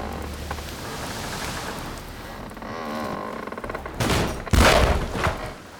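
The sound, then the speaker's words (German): Wooden beams of the ship Mayflower groan and creak on the ocean as waves wash cold water over the deck planks, then the main beam, shaken by a massive breaker, gives way in a burst of loud, sharp splintering cracks near the end. “Das Geräusch kam vom Hauptbalken.”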